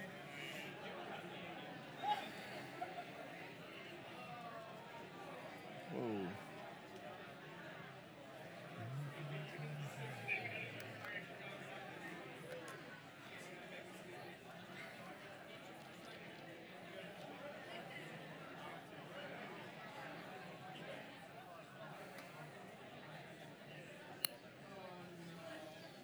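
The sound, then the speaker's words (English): A gathering of people in the morning turning to those around them, greeting one another with "kia ora" and chatting at once, a steady overlapping murmur of many voices with occasional clinks and shuffles, continuing evenly throughout. “So maybe just for like 10 seconds, put on that bravery pants or hat, whatever you want, and just turn to a few people around you, just say, kia ora, good to see you, you're looking fine this morning.”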